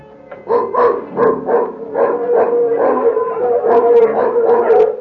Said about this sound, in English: As the mongrel dogs curse their nasty little throats. Do they give us away? They may wake people up.